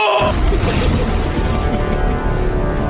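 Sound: bomb explosion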